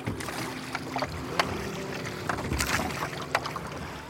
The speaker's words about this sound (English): This is just lovely. I feel like Pharaoh being rowed up the Nile.